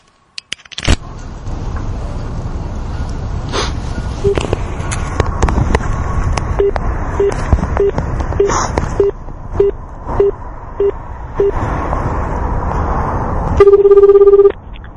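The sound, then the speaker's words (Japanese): A rapid, evenly spaced string of short telephone dialing beeps plays over a steady background hiss as a phone call is made once more, then a louder, sustained ringback tone sounds near the end. “じゃあちょっとね、もう一回電話してみましょうかね。”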